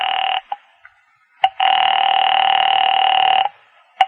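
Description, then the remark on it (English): In a phone booth, a telephone line tone sounds while a call is placed, is cut by a few sharp clicks of dialing, then a long, steady ringing buzz drones for about two seconds before another click. Nobody speaks. “I made another call there in the phone booth.”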